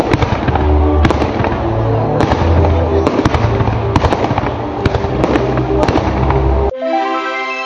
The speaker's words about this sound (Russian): Традиционный фейерверк, 7-минутная радуга ночи, еще один самый долгожданный подарок в день рождения любимого города.